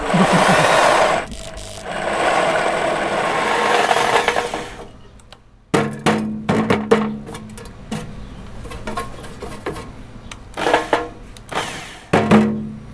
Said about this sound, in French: Quand tu concasses 150, 200, 300, 500 kg de malt, voilà, avec la perceuse, t'en as pour la journée, quoi.